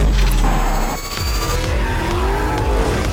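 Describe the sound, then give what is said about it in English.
A car engine roars and revs hard while tires screech and skid. The noise is loud, and the motor's pitch rises and falls throughout a few seconds of continuous sound. “It was every stuntman's stunt car of choice. And a ruler on the racetrack.”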